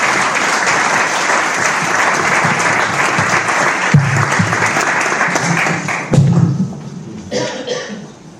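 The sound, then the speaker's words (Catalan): Sustained audience applause at a community event in Sitges, a dense wash of many hands clapping at steady loudness, with a few thuds, then tapering off near the end as it fades into quieter scattered claps. “un fort aplaudiment.”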